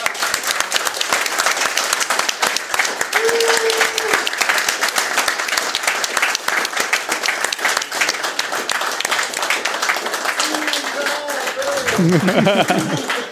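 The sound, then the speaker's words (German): Sustained audience applause for two guests, a dense, steady wash of many hands clapping at full loudness for the whole stretch, with a few brief voices and whoops rising out of it near the end. “Also wir danken und ich würde sagen, wenn wir schon mit vielen Leuten hier sitzen, können wir auch einmal für die zwei nochmal klatschen.”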